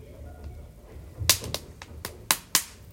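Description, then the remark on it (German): A quick run of about six sharp whip cracks, evenly spaced and fairly loud, snapping in steady rhythm over a faint background with no voices; a whip-cracking sound effect made for a circus film. “Das Peitschenknallen für seinen Zirkusfilm.”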